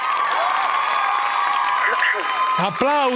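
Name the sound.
applause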